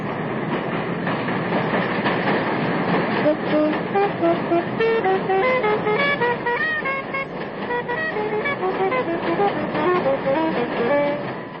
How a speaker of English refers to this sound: For years, Sonny Rollins practiced his saxophone on the Williamsburg Bridge. You know all these sounds, you say, because I'm sure that subconsciously I change what I'm playing to blend with the sound of the train.